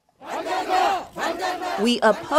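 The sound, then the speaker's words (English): A crowd of protesters at Seoul Station in Seoul, South Korea, confronting a North Korean advance team, shouts "We oppose" in unison, a loud, sustained chant of many voices rising and falling in two or three forceful bursts, with individual voices breaking through near the end. “We oppose, shouted demonstrators at Seoul Station, the train and subway station in the center of the capital city.”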